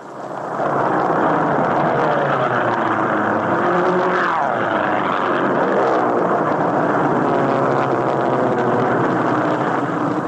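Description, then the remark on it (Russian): A loud, sustained roar of a squadron of Japanese aircraft sweeping low overhead above American boys playing baseball, with a pitch that slides down as they pass. No voices are heard. “где стая изящных японских самолетов на бреющем полете пролетает над американскими мальчишками, играющими в бейсбол”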